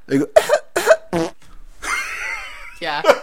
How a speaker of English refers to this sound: And he coughs, like after, just kind of just exactly like that happened right now.